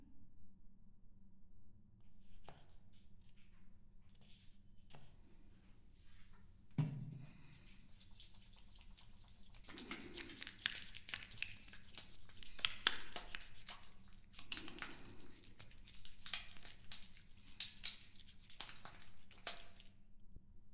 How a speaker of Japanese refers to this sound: ではシャンプーを泡立てますね。